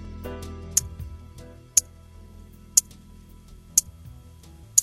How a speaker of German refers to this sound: Dieses Ticken. Es markierte 1983 den Wendepunkt zum Besseren für die Schweizer Uhrenindustrie. Es handelt sich dabei um eine Billiguhr